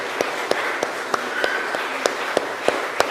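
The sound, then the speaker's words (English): A church audience applauds the newest member after a baptism: a steady, evenly spaced series of about ten sharp claps stands out over a soft, continuous wash of clapping, with no talking. “So let's give a round of applause to the newest member of our Christian faith.”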